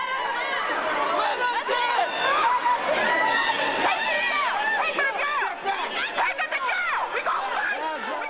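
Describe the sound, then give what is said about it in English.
A loud, agitated crowd protesting a plan to demolish public housing, outside the New Orleans City Council as police use pepper spray and tasers to control it: many voices shouting and talking over one another in a continuous, dense roar, with occasional raised cries and yells cutting through the din. “Police were using pepper spray and tasers to get control of the crowd outside of the New Orleans City Council.”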